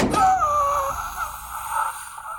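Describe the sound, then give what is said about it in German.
A young man lying by a door whimpers in pain, holding his shoulder, which a rifle's recoil dislocated; a thin, wavering moan rising and falling over a couple of seconds, fairly quiet, with no other voices. “Bei der Tür lag ein junger Mann und wimmerte.”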